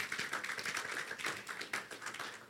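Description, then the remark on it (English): An audience applauds for the Lord Jesus, a dense, steady crackle of many hands clapping at once, loud and sustained for a few seconds without any voices over it. “Clap for the Lord Jesus.”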